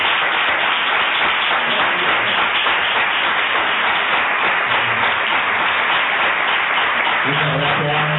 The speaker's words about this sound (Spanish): Un aplauso para él.